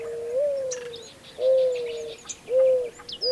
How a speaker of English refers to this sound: This is WSHU's Bird Song Break. This week's bird is the mourning dove.